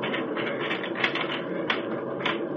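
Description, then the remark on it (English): Static line hooks clip onto a taut anchor cable as paratroopers stand up and hook up before a jump, with a few sharp clacks rising over a steady mechanical rattle and rumble. No one speaks. “Static line fastened the cable over my right shoulder since I'm going out the right door.”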